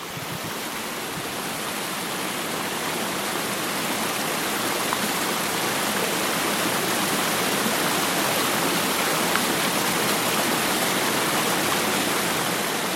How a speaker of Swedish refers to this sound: Vilken upplevelse, så kraftfullt vattenfall att dånet från det mäktiga fallet överröstade ens tankar.